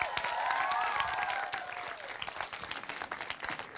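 A large audience applauds with dense, continuous clapping that fills the room, a brief voice or cheer rising over it early on before the applause eases slightly and carries on.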